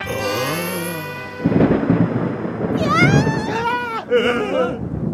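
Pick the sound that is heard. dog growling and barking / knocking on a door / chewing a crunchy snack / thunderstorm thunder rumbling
thunderstorm thunder rumbling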